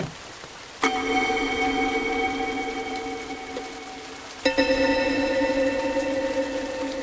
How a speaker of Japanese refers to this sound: あ、いい音かも。 でしょ。 もっと増やしてみるか。 雨漏りはいっぱいあるしね。 これとか。